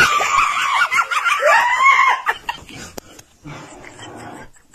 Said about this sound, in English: Scream of the day. That was a dude screaming? That was a boy.